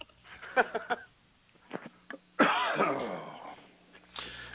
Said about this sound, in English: did I just hear you cough?